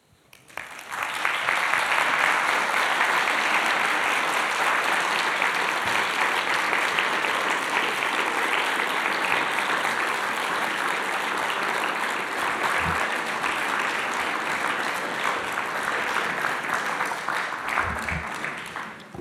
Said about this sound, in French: Merci beaucoup. Écoutez, c'était très beau. Les applaudissements vous ont montré comme nous avons apprécié.